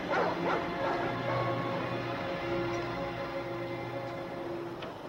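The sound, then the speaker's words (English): Several angry guard dogs bark and yip aggressively in a dense, overlapping chorus in an enclosure where two men in suits are training them, loudest in the first second with another sharp bark near the end, over a steady low tonal drone. “They see two suited men in the enclosure training the many angry guard dogs.”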